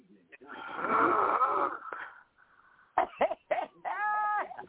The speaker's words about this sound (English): We know you're not here because we can hear you. Is that snoring? Yeah. He's asleep.